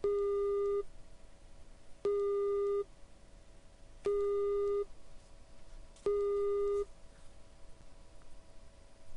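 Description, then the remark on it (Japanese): A telephone busy tone after a call disconnects: four steady beeps, each lasting under a second, repeating every two seconds over a faint hiss, with no voices. “ぷつりと電話は切れた。アリサはすぐさまかけ直す。”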